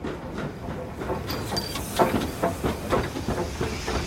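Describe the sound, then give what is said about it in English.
The steam locomotive Black Prince hisses steadily at the Gloucestershire and Warwickshire Railway, with a run of rhythmic chuffing bursts building through the second half. There are no voices. “Well, one of the other important people here at the Gloucestershire and Warwickshire Railway is the man who's actually the fireman on Black Prince today”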